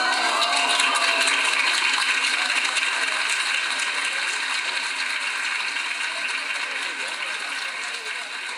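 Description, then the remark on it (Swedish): Sustained applause at the Börshuset in Stockholm for the announcement of the 2009 Nobel Prize in Literature, mixed with applause from a small group of librarians and public at Malmö City Library: a dense, steady wash of clapping that holds for the whole stretch and eases off slightly toward the end, with no clear voices rising above it. “Applåderna från Börshuset blandades med applåderna från den lilla gruppen av bibliotekarier och litteraturintresserad allmänhet som samlats på bibliotekets skönlitteraturavdelning.”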